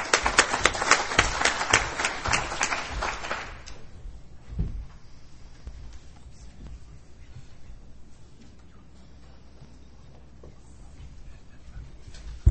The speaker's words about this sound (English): I'd like you to give a warm round of applause